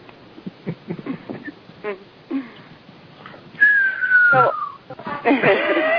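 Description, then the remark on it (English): After some muffled talking and clatter, a person whistles a long, steady note that slides gently downward, then breaks into a brighter, louder flurry of whistled tones at the end. “Who did the whistle?”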